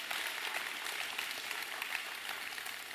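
A crowd claps steadily and continuously for the kids and teachers as the children are dismissed, a dense wash of many hands applauding at once without pause.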